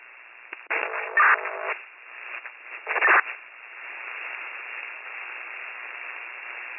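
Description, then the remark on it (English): Tinny radio static: a few loud crackling bursts early on, then a steady, thin hiss that carries on to the end, with no clear voices. “Static.”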